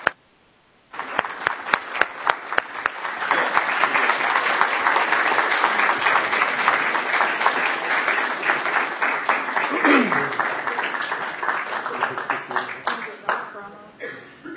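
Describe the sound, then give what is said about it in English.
Sustained applause from a crowd at a school award ceremony as the Apple Distinguished School Award is presented, a dense wash of many hands clapping at steady loudness, with a few sharper individual claps standing out and murmuring voices underneath before it tapers off. “Yes, clap. Absolutely.”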